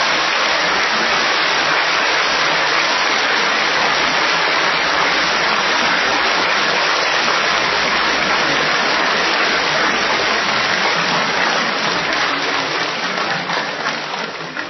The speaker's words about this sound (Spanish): Yo quiero pedirles a quienes todavía nos acompañan que se pongan de pie, quienes están en la primera fila, quienes están en el presidium y que vienen de otras naciones, para que les demos un afectuoso aplauso a ellas y a ellos.